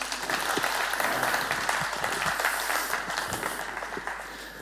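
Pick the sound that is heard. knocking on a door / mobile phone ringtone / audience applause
audience applause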